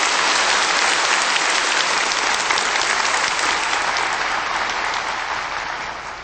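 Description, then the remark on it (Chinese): Sustained, dense applause from a large crowd welcoming Supreme Master Ching Hai to give a talk, steady and loud throughout with no talking, easing off slightly in the last second. “现在请以最热烈的掌声恭请上清下海无上师为我们开示。”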